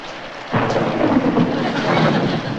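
A sudden burst of thunder rumbles loud over steady, heavy rain, the storm roar filling the whole clip with no voices.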